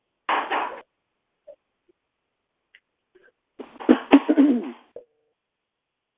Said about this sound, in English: Now, we've been listening to somebody hammering in the background. Have I said anything about it? No. Does it bother you to hear it? More than likely.